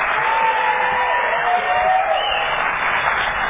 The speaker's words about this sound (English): So can we just give one last round of applause for our panel for the opening meeting, who will be telling us, we are not a glam lot.